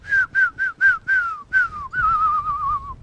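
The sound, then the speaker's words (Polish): A man whistles to call pigeons out of their cage into the yard: five quick, clipped notes in a steady rhythm, then a longer falling note and a sustained, wavering whistle, fairly loud with no talking. “Wychodzą z klatki, już jak zaczął gwizdać na podwórko, popatrzysz.”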